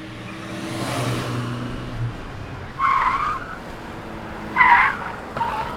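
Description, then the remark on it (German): Cars rush along busy Schneeblinenstraße, engines droning low while tires squeal in sharp bursts as vehicles pass one after another, with no one talking. “Hier auf der Schneeblinenstraße braust echt der Verkehr durch.”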